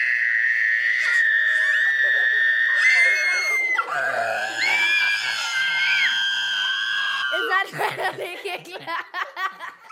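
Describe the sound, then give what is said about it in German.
Children scream at full strength into a glass, trying to shatter it, sustained high-pitched shrieks that waver and slide in pitch, then break into choppy, gasping bursts and giggly squeals toward the end; no glass shatters. “ob die das besser hingekriegt haben als du”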